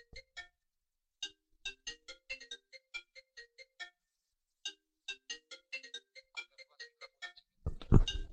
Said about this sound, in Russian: Кто тут телефон-то оставил? Я понял, что это уже у меня играет. Самое главное, кто здесь какой телефон-то оставил? Мой-то телефон в кармане лежит, это точно не он. Ладно, все, он уже перестал играть.